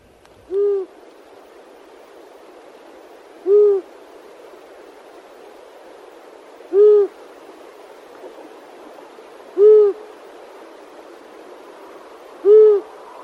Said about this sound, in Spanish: Pero exacto, antes vamos a escuchar a este búho chico. Seguro que a muchos les va a sonar.